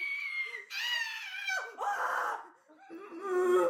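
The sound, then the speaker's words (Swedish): A voice imitates a piercing, high-pitched shriek that breaks into a rough, growling roar, loud, with a few strained squeals in between. “Jag tror att de första tonerna kunde bara hundar höra. Ja, jag tror det också. Och sen övergick det i något slags bröl.”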